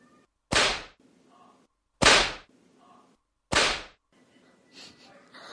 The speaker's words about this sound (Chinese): 光听到鞭子的声音，肉棒就有反应了。这几鞭子真没白抽呢。